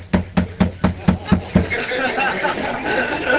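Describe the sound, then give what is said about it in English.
Seven quick, evenly spaced pounding thuds, like ball-peen hammer blows, land in a steady rhythm over about a second and a half, then give way to a loud swell of crowd noise. “Now, if you saw a guy doing that, man, if you saw a guy standing with a ball-peen hammer going, man, I got to stop this pain.”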